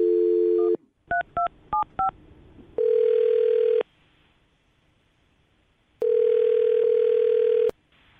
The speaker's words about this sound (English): All right, well, I'm going to dial the phone number.